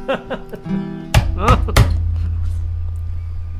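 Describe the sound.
A ruler taps on a desk three times, sharp, loud wooden knocks in quick succession with a slightly uneven rhythm. Voices murmur just before the taps, and a low steady hum lingers afterward.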